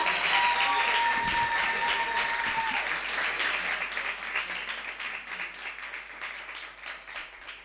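Sustained audience applause, a dense wash of many hands clapping that stays loud for several seconds and then gradually thins toward the end, with a brief held tone fading out near the start.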